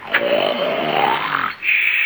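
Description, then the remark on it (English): A loud, raspy snore drags on for about a second and a half, then breaks into a steady high whistling tone, like an exaggerated, performed snore, made through saxophone reeds stuck into football nose guards. “As soon as you start a snoring, you play a tune.”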